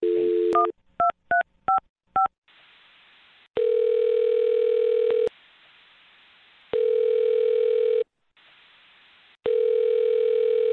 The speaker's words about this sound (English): All right, well, I'm going to dial her phone number right now and see if we can help you out. Here we go.